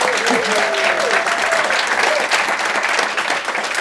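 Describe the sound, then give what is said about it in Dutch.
A live audience at Nieuwspoort, having just watched the year's most important speech, applauds steadily, dense clapping with a few cheers and whoops rising above it, continuous and fairly loud throughout. “wij zijn met Café Europa dit keer live in Nieuwspoort met enthousiast publiek”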